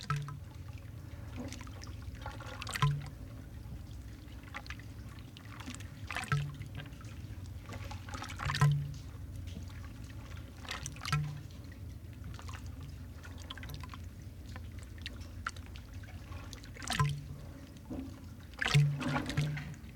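Sea waves slosh and gurgle into cylindrical openings in a pier, recorded by microphones placed in the openings, with irregular splashes every few seconds over a steady low watery rumble, fairly quiet, no voices.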